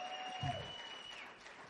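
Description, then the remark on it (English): An audience claps in a steady, crackling wash of applause that holds at an even, fairly soft level throughout, with a faint sustained tone ringing beneath it. “Come on, you ought to clap for that today.”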